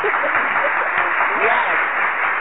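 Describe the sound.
A round of applause fills the room, a dense steady clatter of many hands clapping at once, with faint cheering voices mixed in throughout.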